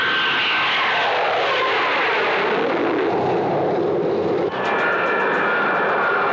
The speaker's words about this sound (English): The U-2 took off on its first test flight.